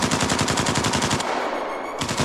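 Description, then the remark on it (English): A rapid burst of automatic gunfire from a rifle, about a dozen sharp, loud shots in quick succession as Vovan fires at a moving figure lying behind logs, then the firing stops and a faint high ringing lingers. “When the figure moves, Vovan fires.”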